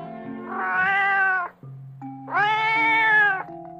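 A cat lets out two long, drawn-out, loud meows separated by a short pause, with faint steady tones humming underneath.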